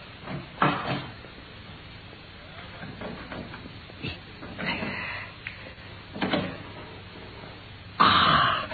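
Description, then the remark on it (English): Metallic scraping and clanking come in irregular bursts as tools pry at a heavy safe door, quiet rustling between them, ending with a louder clunk and rattle as the safe opens. “It's open, Watson. You've done it? Yes. Look there. Bundles of letters in here.”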